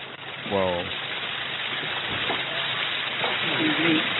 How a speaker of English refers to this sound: So they're pulling up. They get out of the car. Listen to the cameras when they step out of the car. Listen to the flashes.